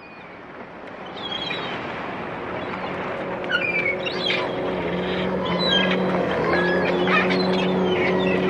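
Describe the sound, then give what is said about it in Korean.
The engine of Kim Jong-il's private motorboat drones steadily out at sea off Wonsan on a winter sea-duck hunting trip, a low constant rumble that builds slightly louder toward the end, with faint high chirps flickering above it. “여여여여, 엔진 죽이고 왼쪽으로 서서히 다가가.”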